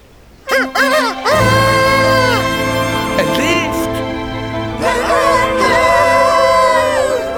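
A rooster crows loudly, a long strained cock-a-doodle-doo that breaks into a second drawn-out crow, with a faint murmur of other sounds underneath.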